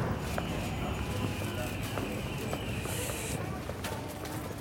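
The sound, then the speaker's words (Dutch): Footsteps of people walking outdoors around a corner toward Schlemmer, a steady run of soft taps over a constant bed of street noise and murmuring, with a brief hiss partway through. “Ja, nou, we moeten nog even lopen, hoor.”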